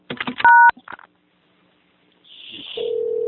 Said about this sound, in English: Oh, now I'm hearing. There's a ringing phone noise in the background with little beeps.